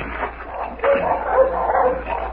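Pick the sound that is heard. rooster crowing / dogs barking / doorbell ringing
dogs barking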